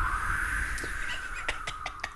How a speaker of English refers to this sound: Doing ambient sound. Right. So, that's seal.